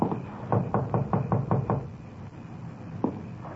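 Police officers rap on the front door of a house with a 1938 Chevrolet truck parked in the driveway: a quick, even run of about eight firm knocks, a pause, then one more solid knock and a fainter one, with no voices.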